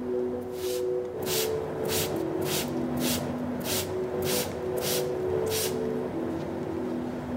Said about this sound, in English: You can use a sponge or a wet flannel, or in some cases, you can even wet your clothes. In this particular case, we use a water spray.